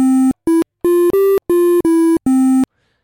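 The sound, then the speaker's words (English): An 8-bit NES-style triangle wave synth, played from a virtual MIDI keyboard in a plugin, plays seven short, clean notes in a row, mostly on the same low pitch with one slightly higher, separated by brief silences. No voices. “The triangle virtual sounds MIDI like this.”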